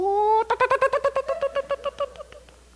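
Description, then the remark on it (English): A voice imitates a hen's warning cluck to her chicks when danger comes: a short rising, drawn-out note, then a quick run of about fifteen sharp, throaty clucks that gradually soften and fade. “those chicks that listen to the clucking sound of that hen”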